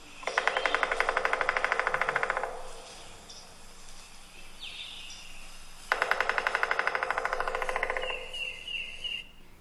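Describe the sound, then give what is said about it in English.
A bird's mating call of rapid, loud knocking comes in two bursts of fast, even taps, each lasting about two seconds, with quieter faint chirps in the pause between them. “That is a mating call.”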